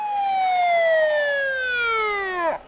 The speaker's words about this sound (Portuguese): A mulher levantou a mão e o silêncio impôs-se entre a multidão quando se ouviu um som de uma sirene.